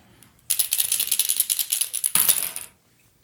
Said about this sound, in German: Wir würfeln gleich Quersummen, dann geht's schneller.